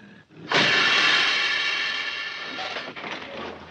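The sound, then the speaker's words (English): A city bus slamming on its air brakes lets out a sudden, loud hiss, holding strong for about three seconds before gradually easing off. No voices are heard. “But turns out to be a city bus, slamming on its brakes.”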